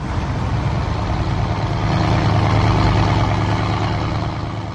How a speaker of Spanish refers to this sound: La lancha en la que viajan tiene 12 metros de eslora, 3 potentes motores. Es igual a las que se usan para transportar la droga.